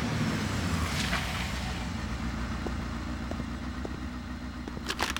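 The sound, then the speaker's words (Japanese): A mother's motorbike engine rumbles steadily as she arrives home, a low continuous drone that seems to draw closer, with a few faint clicks and brief higher noises near the end. “あ、お母さんのバイクの音。”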